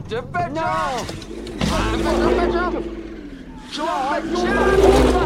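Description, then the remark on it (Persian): A car engine is hurriedly started and settles into a steady, low rumble that swells as the vehicle pulls away, with excited voices talking over it throughout. “بادو بادو بادو، ماشین رو روشن کن، زود باش دیگه.”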